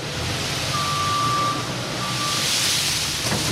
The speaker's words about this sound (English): The storage room at McCleskey Mills in Smithville looks like an airplane hangar. A front loader is moving a mountain of peanuts into underground storage.